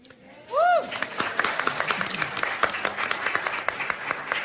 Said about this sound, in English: And this is going to give you a reason for extra applause. She was confirmed as Commissioner of BACP, the Business Affairs and Consumer Protection Office, yesterday.